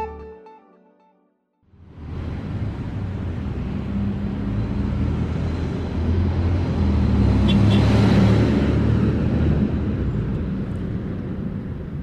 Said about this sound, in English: Rush hour in Mexico City. There are some 20 million people that live here and 5.5 million cars.